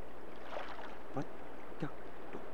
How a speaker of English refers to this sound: Where the waves splash, hitting again and again.